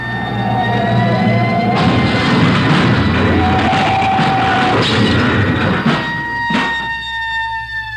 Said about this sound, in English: They're going too fast to turn now. Traffic's closing in up ahead of them. They better not turn. That's what they're doing. Look at that trailer whip. They're going over. Into that storefront.